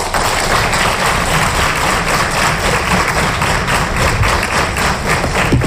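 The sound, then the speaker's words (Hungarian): A crowd at a competition applauds steadily for several seconds, a dense, loud wash of many hands clapping at once with no voices standing out. “Valamelyiknek köszönjük a munkáját, de nem feledkeztünk meg a résztvevőkről sem, akiknek sok sikert, még több tapsot kívánunk.”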